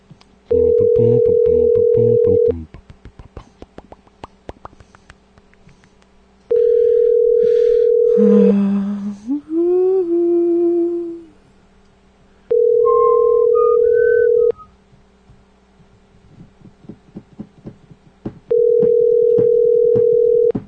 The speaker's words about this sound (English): How many times does the phone have to ring? Pick up the phone, please.